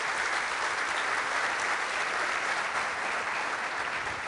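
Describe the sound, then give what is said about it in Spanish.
Sustained applause from an audience for a team taking part in Imagine Cup for the first time, a dense steady clatter of many hands clapping at once, loud and continuous for several seconds with no voices standing out. “Yo quisiera un fuerte aplauso para este equipo”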